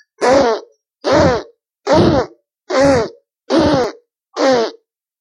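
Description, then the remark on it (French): Six loud, buzzing fart noises from a wolf in a story, standing with legs apart and aiming its rear at a house, each lasting under a second, come in a steady, evenly spaced series with short silences between them and no talking. “Le loup, comme il l'avait fait pour la poule et le coq, se campa les pattes écartées, braqua son derrière et...”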